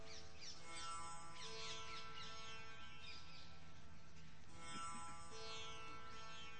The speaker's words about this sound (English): Voices of birds. Is only one type of bird or are there different birds' voices? Try to distinguish.